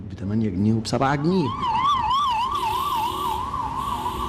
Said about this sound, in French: À grand renfort de sirènes, la police sillonne le centre-ville de la capitale depuis quelques semaines. Son but, se rendre visible et prévenir tout désir de manifester de la population.